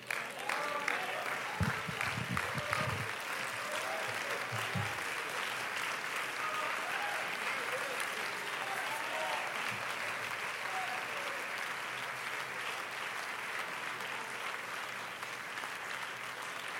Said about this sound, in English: Well, let's give the Lord another hand clap of praise right now.